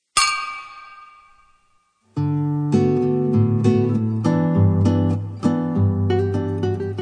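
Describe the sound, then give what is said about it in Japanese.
A single bright clink of beer glasses in a toast rings out and fades slowly over a couple of seconds, then a steady stretch of music begins and carries on to the end. “じゃあ、うん、乾杯しましょうか。”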